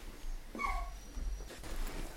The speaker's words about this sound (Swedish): Vet du vad, nu är din vovve här som låter.